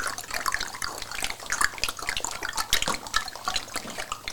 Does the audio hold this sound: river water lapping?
yes